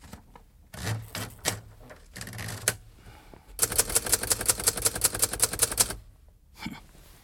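Sharp mechanical typewriter keystrokes as someone briefly types something on the machine: first a few irregular clacks, then a fast steady burst of rapid strikes for about two seconds, ending with a single clack, fairly loud with no talking.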